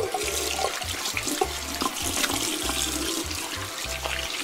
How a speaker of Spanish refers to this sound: Ay, qué bueno que tenías agua para lavarte las manos. Las traías muy sucias, ¿eh?